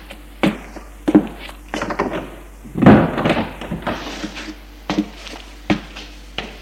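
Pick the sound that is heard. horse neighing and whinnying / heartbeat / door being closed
door being closed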